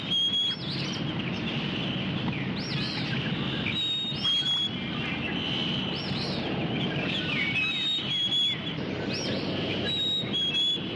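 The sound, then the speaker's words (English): A chickadee and a phoebe sing together in a yard, clear high whistled notes and short buzzy two-part phrases repeating every second or two over a constant background hiss. “Here is the chickadee singing with the phoebe, as we ordinarily hear them.”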